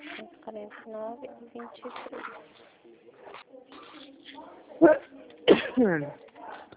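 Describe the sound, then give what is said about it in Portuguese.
People talk quietly, then a sharp, loud sneeze bursts out near the end, followed by a little more speech. “Nossa, a gente espirra, o povo olha feio, né?”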